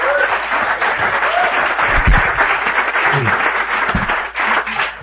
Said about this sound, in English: Holy man's got more sobriety than almost I've been alive. 28 years is longer than I can comprehend. So let's give him a big round of applause, yeah?